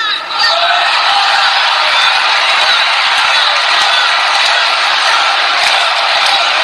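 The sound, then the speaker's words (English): A crowd on its feet cheers loudly and steadily after a speech by Donald Trump's son, a dense roar of whoops and yells that holds at full strength for several seconds without letting up. “Wow, the crowd is on their feet.”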